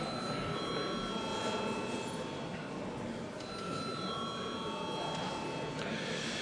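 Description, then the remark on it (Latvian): A parliament voting bell rings continuously for several seconds, a steady metallic trill with bright high overtones, over a faint background murmur. It is rung as deputies are called to vote on referring a bill amending the law on state compensation to victims to committees. “Lūdzu zvanu.”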